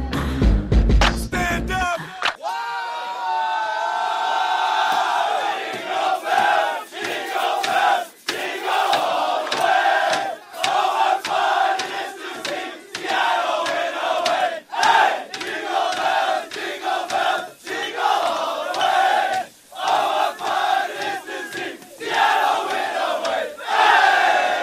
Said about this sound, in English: That's a joyous Seattle Sounders Club with their version of the holiday classic Jingle Bells, celebrating their first Major League Soccer championship.